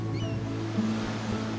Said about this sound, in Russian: прибой, волны которого набегают на берег, чтобы затем отступить назад. И каждая набежавшая волна, как волна расслабления и покоя, пробежавшая по телу, расслабляет и успокаивает тело, и еще глубже. И чем лучше вы слышите морской прибой,